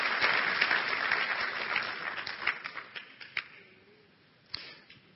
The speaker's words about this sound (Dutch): Geef de Heer een applaus. Halleluja.